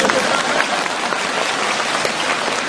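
Steady, loud applause from an audience, a dense crackle of many hands clapping at once that holds an even level throughout, with no voices standing out above it.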